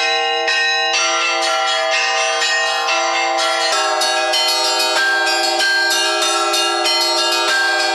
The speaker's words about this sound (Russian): Бывает трудно, да, они когда выскальзывают, но в принципе не очень. На праздник, например, на Пасху и на Рождество мы другую мелодию играем. Более как бы она поинтереснее и позвучнее. В ведении мальчиков 7 колоколов.